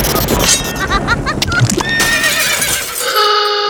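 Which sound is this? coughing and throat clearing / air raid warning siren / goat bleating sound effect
goat bleating sound effect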